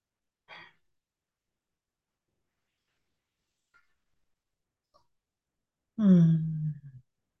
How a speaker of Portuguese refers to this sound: Fazendo uma respiração profunda, agradecendo.